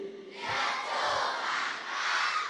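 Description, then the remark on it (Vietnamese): A group of children shouts together in one loud, sustained burst lasting about two seconds, their high voices blending into a single bright chant that swells slightly twice before ending. In Vietnamese, they answer their teacher's question 'tu nghĩa là gì' by shouting 'diệt trừ bản ngã' (eliminate the ego). “Tụi con nói mà những nhà tường này chưa rung rinh, tụi con phải la làm sao tường nó rung rinh.”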